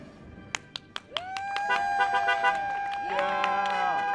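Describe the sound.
Several car horns honk in long, overlapping blasts during a car parade, led by a short yellow bus decked out in class of 2020 signs, for a Glastonbury High School graduate's solo diploma ceremony outside his house, after a few sharp clap-like knocks at the start, with a faint murmur of voices underneath.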